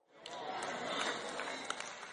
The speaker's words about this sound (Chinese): 你们的掌声不像之前那么热烈。